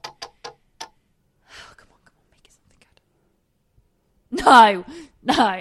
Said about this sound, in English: Spinning. All right, we're going to get something really good. I'm not even looking. I'm looking at the wheel right now. I'm waiting until I hear the clicking end.